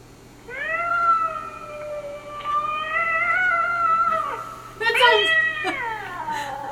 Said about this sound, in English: Or cat fights. Cat fights? Yeah. Like a scary cat fight.